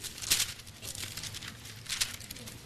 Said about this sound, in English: I like to hear those pages rustling. So much is done on tablets and iPads and all that stuff nowadays. I like to hear pages rustling in Bibles.